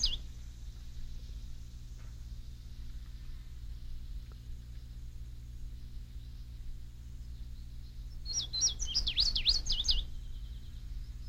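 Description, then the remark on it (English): A bird sings a quick burst of high, warbling notes near the end, with a brief chirp at the start, all over a steady low rumble of background noise. “Bird songs can be heard from a distance of 100 meters or more, depending on the bird, the terrain, the listener's ears, and the level of background noise.”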